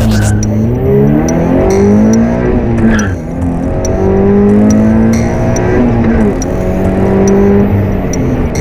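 Loud Toyota GT86 and Subaru BRZ race car engines roar and rev continuously at a race on the Łódź track near Stryków, Poland, pitch rising and falling as the cars accelerate and shift, with tires squealing intermittently over the steady mechanical din.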